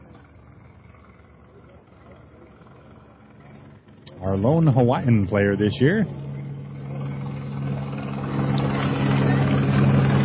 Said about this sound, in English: We've got a helicopter here hovering overhead.